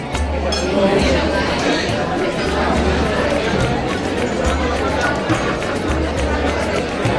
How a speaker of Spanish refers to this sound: Pero lo que es irritante no es el villancico en sí mismo, lo que es irritante es el villancico con el ruido del Centro Comercial. Que hay más ruido que villancico. Esto es lo que oímos.